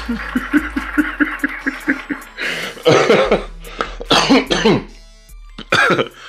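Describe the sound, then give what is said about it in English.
Rhythmic snickering laughter gives way to several loud, harsh coughs right up against the microphone, coming in irregular bursts with a throat-clearing rasp. “My bad, I'm coughing all in the mic and shit.”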